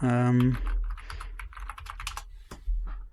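Rapid clicking of keys on a computer keyboard, a quick irregular burst of crisp taps, preceded by a brief low tonal hum.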